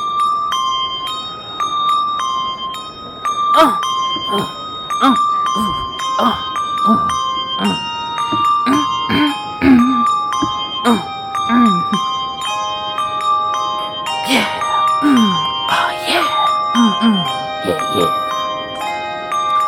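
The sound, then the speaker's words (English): Thirty-six bells chime together in a continuous, ringing melody during a performance called the Dance of the 36 Bells, their tones overlapping and sustained throughout, with scattered vocal sounds underneath. “This is called the Dance of the 36 Bells.”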